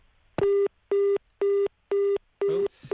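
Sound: busy tone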